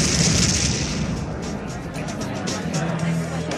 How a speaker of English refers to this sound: Excuse me, sneezing, allergies, rough out there.